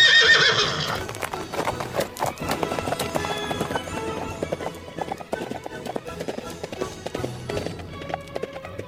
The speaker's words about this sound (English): From out of the past come the thundering hoofbeats of the great horse Silver.